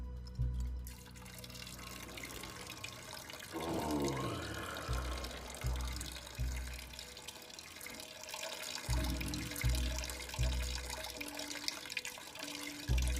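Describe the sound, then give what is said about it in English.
A muscular man in a loincloth and a metal mask with bullhorns urinating into a bowl on a ledge by a bathtub: a continuous splashing liquid stream patters steadily for several seconds, with intermittent drips and low thuds, at a moderate level and with no talking. “He urinates into the bowl.”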